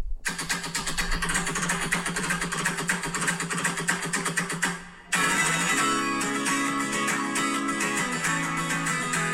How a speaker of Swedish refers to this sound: Det är inte så speciellt i akkorden han drar, utan det är sättet han slår på gitarren. Alltså, vad heter det? Riffet. Nej, men alltså, när man slår med höger handen liksom. Ja, med höger hand. Exakt. Lyssna nu.